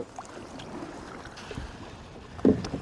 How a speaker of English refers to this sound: we're going to have to paddle, unfortunately. We are today. Because we're just stopped dead in the water.